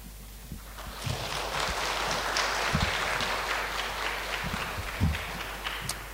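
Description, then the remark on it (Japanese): A steady wash of audience applause, many hands clapping in a dense, continuous patter with no voices, holding an even level for several seconds; a church audience in Japan welcoming a visiting navy chaplain speaker. “一つのことという題でメッセージを語ってくださいますので、拍手を持ってお迎えいたしましょう。”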